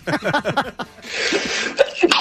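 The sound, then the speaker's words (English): A man's short series of rapid, voiced bursts like stifled coughs, followed by a long, breathy, noisy exhalation resembling a sneeze or harsh cough, moderately loud. “There's no real point to that other than I wanted to play him sneezing and coughing during the COVID question.”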